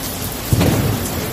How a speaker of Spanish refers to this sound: El primer episodio de precipitaciones y tormenta del verano ha atravesado la región sin dejar incidencias graves.